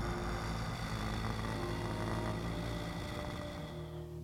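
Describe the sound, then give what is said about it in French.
A low, steady hum carried on a long exhale through the mouth during a breathing exercise, pitched as low as possible: one sustained buzzing tone held fairly loud for several seconds before easing slightly at the end. “On expire par la bouche en faisant du son.”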